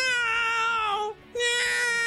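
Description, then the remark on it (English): A dog whines in two drawn-out, high, steady cries separated by a brief pause, each one loud and nasal with a slightly wavering pitch. No talking is heard. “And you know, he doesn't bark, but he does do weird whining.”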